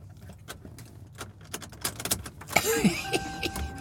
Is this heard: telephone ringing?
no